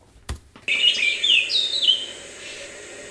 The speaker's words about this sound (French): C'est vous qui avez demandé à écouter des oiseaux. Bah. Hein, en même temps. Mais et là, vous avez entendu que des oiseaux ou... Des feuilles, des... Ah, on entend le vent quand même.